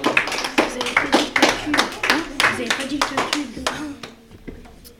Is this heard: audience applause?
yes